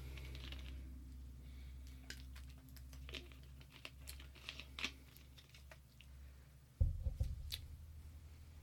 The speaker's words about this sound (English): I'm gonna take another bite of one of these pink lemonade Kit Kats, if you don't mind, here.